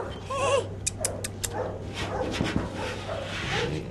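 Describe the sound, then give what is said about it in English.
A young male Labrador retriever, a military working dog candidate, whimpers in high, wavering whines as it is woken after sedation at a hospital at Lackland Air Force Base in San Antonio, then lets out several short, sharp barks in quick succession over a steady low hum, with faint background noise throughout. “a young male Labrador retriever who might have what it takes to be a military working dog.”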